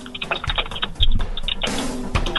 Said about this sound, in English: Why are you typing? I can hear you typing.